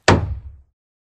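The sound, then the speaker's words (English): A single hammer thwack: a sharp, loud impact with a bright crack at the start and a low, thudding resonance that dies away within about half a second. No voices. “Which of these hammer thwacks went wrong?”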